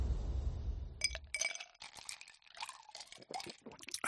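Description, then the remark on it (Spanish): A cold drink is poured over ice, with a low gurgling pour at first followed by a run of bright clinks and rattles as the cubes knock against the glass. “Lo que tardas en beberte una bebida bien fresquita, con sus hielos, cuando estás en pleno verano y a 40 grados a la sombra,”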